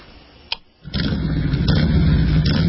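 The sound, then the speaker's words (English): In a Progressive Motorcycle Insurance ad, a motorcycle engine is put on as white noise to help someone sleep. After a quiet moment and a sharp click, it fires up and settles into a loud, steady, throbbing rumble, with no one speaking. “Would you mind if I put on some white noise?”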